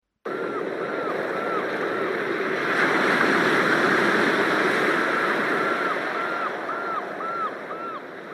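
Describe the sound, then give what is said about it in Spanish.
South Atlantic ocean waves in Mar del Plata wash steadily against a jetty, a dense roar of surf that swells louder in the middle and eases slightly toward the end, with no voices. “En una escollera del sur Atlántico, según el humor del viento, el mar te puede inspirar a saltar y abrazarte para siempre con sus aguas grises o a irte.”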